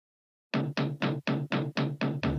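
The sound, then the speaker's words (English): A rapid, even series of about eight loud, hollow knocks, each with a resonant, slightly tonal ring, like a cartoon door being pounded; a Hanna-Barbera sound effect. No voices are heard. “Knock on Fred's door. I know what that is. That's a Hanna-Barbera sound effect.”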